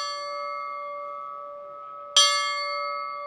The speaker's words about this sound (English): The bell that is heard across the grounds is mounted in the winner's circle and is only rung by one person